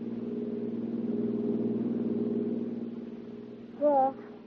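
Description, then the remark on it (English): A car engine drones steadily at a low, even pitch as the car winds its way along the lonely Skyline Drive, high over the sea, as it gets dark, with a brief voice breaking in over the motor just before the end. “It's getting dark when you check out of the hotel, meet Anne, toss your luggage into the back of her car, swing out of the city and wind your way along the lonely Skyline Drive, high over the sea.”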